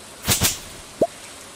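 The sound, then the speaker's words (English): A video game watering can waters a parsnip: two quick splashy whooshes in succession, followed moments later by a single bright, bubbly plop. Clean, with no voices. “Water parsnip. Water parsnip.”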